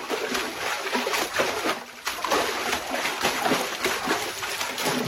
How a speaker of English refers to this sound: Sound designers don't usually get to take a trip to the beach to record these sounds, as high-end Foley studios will often contain a large concrete pool to simulate sounds made in the sea or swimming pools.